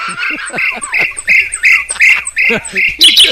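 bird, birds chirping outdoors

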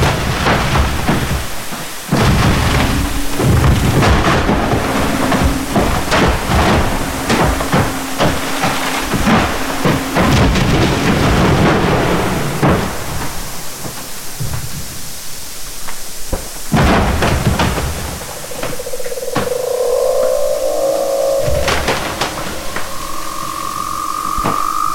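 nature, ice booming

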